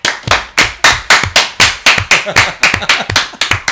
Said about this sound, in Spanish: Y además este fuerte aplauso.